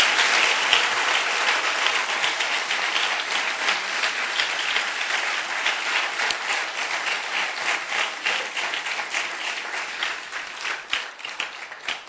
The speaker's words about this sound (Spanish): ¿Cuánto le dan aplausos al Señor?